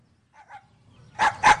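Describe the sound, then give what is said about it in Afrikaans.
A dog barks twice in quick succession, loud, after a pair of softer, higher yips just before. “Die hond sal jou nie byt nie.”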